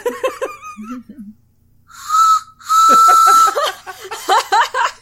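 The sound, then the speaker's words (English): A large handheld train whistle is blown in two loud, shrill blasts, the second longer and steadier, followed by people laughing. “It's a pretty sizable whistle, and I was like, this would be a like a choo choo, and it's definitely just like a.”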